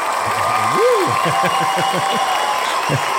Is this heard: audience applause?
yes